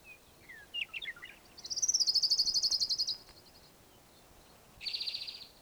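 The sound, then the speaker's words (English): An orange-crowned warbler sings a fast, high trill that repeats in two bursts, the first longer and steady, the second shorter, preceded by a few soft chips and with no talking. “Orange-crowned warbler singing in the background here.”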